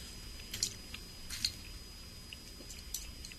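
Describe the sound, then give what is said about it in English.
Quiet wet chewing and squishing as someone eats a raw oyster, with a few soft smacking bursts spaced irregularly over a low background hum. No one speaks. “Notice the oysters are different from each other, too.”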